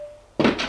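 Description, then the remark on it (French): A door in a house shuts with a single solid thunk after a brief near-silence, the dull knock of the impact lingering for a moment. “Une porte,”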